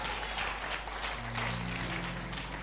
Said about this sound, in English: In the name of Jesus, clap your hands to the word of the Lord.